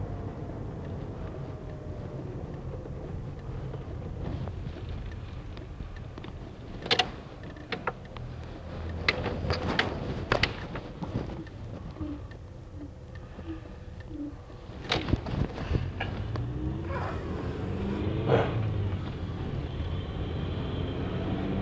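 A car engine hums steadily while the vehicle turns around on the road after coming off a roundabout onto the wrong road, with scattered clicks and thumps breaking through the low rumble and no one speaking.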